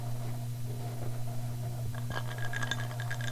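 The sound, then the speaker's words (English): Ice cubes clink against a glass holding a drink in a quick cluster of bright, light taps near the end, over a steady low electrical hum, with no one speaking. “listen to those ice cubes.”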